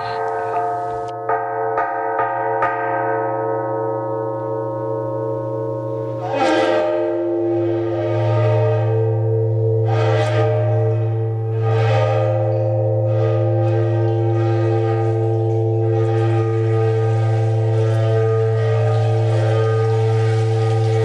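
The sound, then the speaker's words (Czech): A CD recording of a water-filled instrument gives off a steady, layered humming tone, broken every few seconds by brief gurgling, bubbly bursts. It stays fairly loud throughout, with no voices. “Víte, že bychom ten zvuk mohli tak trochu okomentovat třeba, jak vzniká takové to bublání?”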